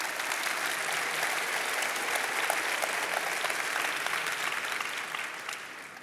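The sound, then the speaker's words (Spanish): Sustained applause from an audience for a person in Champion Forest's process to go to the mission field fills the whole six seconds, a dense, steady wash of many hands clapping at once, easing off slightly at the very end. No one speaks over it. “Dense un aplauso.”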